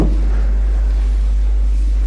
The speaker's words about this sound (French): C'est un camion, un gros camion qui passe.